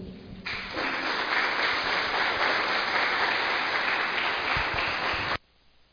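Sustained applause from an assembly as the elected president, vice-president and first secretary of the 2021–2022 board take their places: a dense steady clatter of many hands clapping for about five seconds before cutting off abruptly into quiet.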